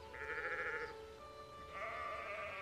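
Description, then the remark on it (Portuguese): A sheep bleats twice, two drawn-out, wavering calls with a short gap between them, clear over a faint steady background hum. “Onde as outras ovelhas iam, Maria ia também.”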